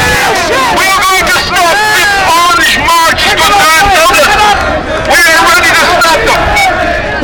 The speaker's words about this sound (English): By 11:15, a very large crowd of Republicans had gathered at the Parnell Monument and the central shop opposite.